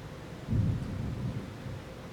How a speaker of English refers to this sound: And the thunder and the lightning.